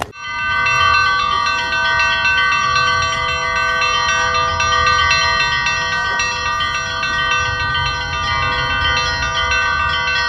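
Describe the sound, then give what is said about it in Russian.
Church bells ring steadily from the bell tower of the Trinity-Vladimir Cathedral during a bell-ringing concert, rung by teachers of the Novosibirsk school of bell ringers. The loud, overlapping tones sustain and blend into a continuous shimmering peal for the whole stretch, with no voices. “На концерте колокольного звона в Троице-Владимирском соборе побывала журналист”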